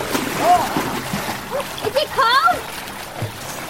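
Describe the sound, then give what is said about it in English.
Water splashes and sloshes against a steady rushing background as children swim in a cold waterfall pool surrounded by lush greenery, their high voices calling out and squealing now and then over the churning water. “When you're splashing around, it scares the eels away.”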